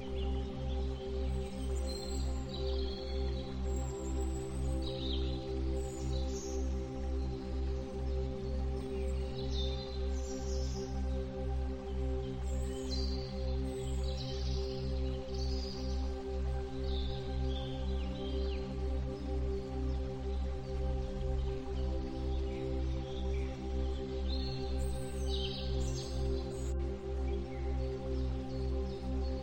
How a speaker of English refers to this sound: You can hear the soft chirping of birds and the distant sound of water flowing.